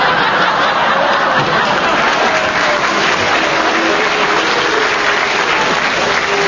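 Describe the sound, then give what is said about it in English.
A studio audience applauds and cheers loudly and steadily for Kenneth Williams, a dense wash of clapping that fills the whole stretch, with faint chuckles and a few raised voices mixed in. “You've already got a partisan audience. They're cheering for Kenneth...”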